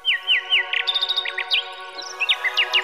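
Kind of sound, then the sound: bird, nightingale singing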